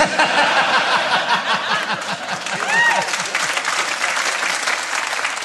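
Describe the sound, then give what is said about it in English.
Steady audience applause fills the whole stretch, a dense patter of many hands clapping at a fairly loud, even level, with only about half the audience clapping and a few laughs and whoops rising briefly through it. “You'll notice that only half of them were clapping for that.”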